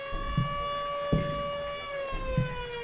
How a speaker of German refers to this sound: Immer die Sirene. Ja, wenn eben Schichtbeginn und um 16 Uhr, wenn Schichtende war, ging die auch wieder.